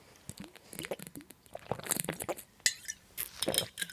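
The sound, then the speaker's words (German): Glasses clink together in a toast, a few bright, ringing taps scattered over a couple of seconds amid soft rustling and handling noise, moderately quiet. “Ja, Prost.”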